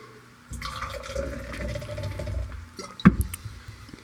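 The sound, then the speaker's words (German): Water pours steadily into a glass for a couple of seconds, a splashing rinse of a beer-tasting glass between beers, ending with a sharp clink of glass near the end. “Ich glaube, ich muss mit Wasser noch spielen.”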